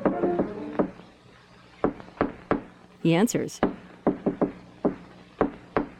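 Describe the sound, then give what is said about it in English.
A man in a hall knocks on a wooden door, sharp and fairly loud, in short bursts of two or three raps, with a brief voice speaking before and between the bursts. “Ned puts a finger to his lips, then steps to a door. He knocks.”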